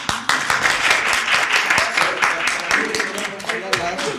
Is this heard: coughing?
no